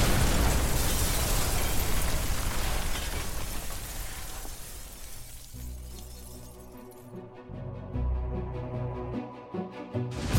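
A loud explosion from a bombing of a house on a dark winter night in Luleå, Sweden, erupts with a roaring, crackling blast and debris-like shattering for several seconds, then gives way to a low, rumbling drone of deep sustained tones.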